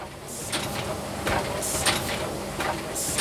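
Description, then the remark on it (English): Blue plastic semaglutide injector pens clatter out of an automated factory assembly-line machine that places vials of clear liquid into the syringes, in a quick, irregular run of sharp clicks and clacks, riding on a steady mechanical whir with bright hissing bursts. “On an assembly line, a machine places vials of clear liquid into blue syringes. You can see the pens clattering out.”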